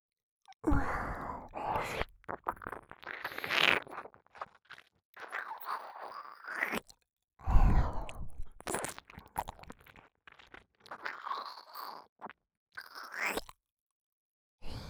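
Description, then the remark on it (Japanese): Wet, slurpy ear-licking mouth sounds in irregular bursts, with smacks, crunchy clicks and breathy sighs between them, and no speech. “A の部屋は…ズルズルの耳なめ。”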